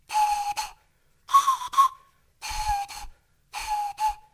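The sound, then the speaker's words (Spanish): A Mapuche pifilca flute, one of three sacred instruments played only in the camaruco ceremony, sounds four breathy, shrill blasts on one steady mid-high note, each blast split into two quick pulses, with short pauses between them and no talking. “Las pifilcas tienen este sonido.”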